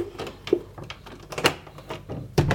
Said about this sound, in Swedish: Så, ska vi gå till dörren och öppna.